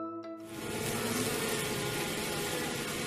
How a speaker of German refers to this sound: So klingt's im Bienenstock. Und Bienen sind ja wirklich wahnsinnig faszinierend.